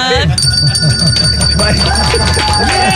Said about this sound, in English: I proudly hand you the dog bell. Yes, I get to ring the bell.